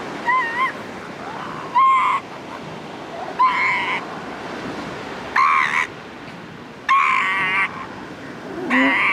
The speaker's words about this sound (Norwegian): Det er elefantsel. Ja, det var det.